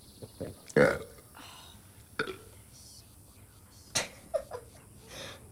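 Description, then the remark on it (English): A loud belch bursts out near the start from a man eating at a family dinner table, followed by a few shorter, quieter throaty sounds and faint background noise, with no speech. “belches.”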